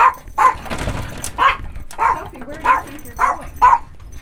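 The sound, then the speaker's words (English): Dogs bark at home in a steady series of about seven sharp, fairly loud barks spaced roughly half a second apart, with some softer yips and whines between them. “At home with their dogs,”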